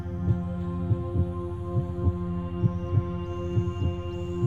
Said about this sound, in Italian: Puoi mettere una mano al centro del petto e sentire il battito del tuo cuore.